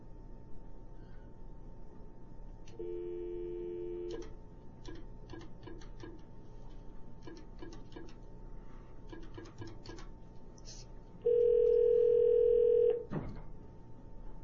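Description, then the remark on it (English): A phone line hums with a steady dial tone, then a rapid series of short touch-tone key beeps as 9 and then 739 are dialed, followed by a loud sustained tone near the end, with no talking. “Yeah, dial 9 first.”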